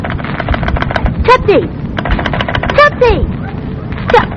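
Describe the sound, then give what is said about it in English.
A harsh electrical crackle of a short circuit on a phone line: rapid, dense clicking and sputtering throughout, broken by several brief squealing, warbling whistles that rise and fall in pitch. “A short circuit.”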